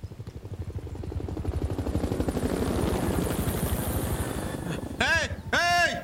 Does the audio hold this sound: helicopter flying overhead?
yes